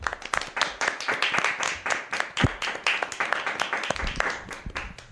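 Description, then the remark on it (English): An audience in a radio program applauds students from José de Churriguera School after their first radio program in English, with dense, overlapping hand claps forming a steady crackling patter that stays fairly loud throughout, with a few sharper individual claps standing out and no talking. “Han hecho casi todo el programa en inglés y han hecho un programa, yo creo que bastante digno, por eso nos hemos dado un aplauso.”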